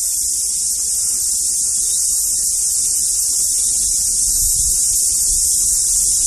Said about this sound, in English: Be able to hear the cicadas and the sound of the river, the rustling of the leaves, the cicadas.